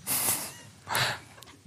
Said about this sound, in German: Du schnaufst schon auch ganz schön.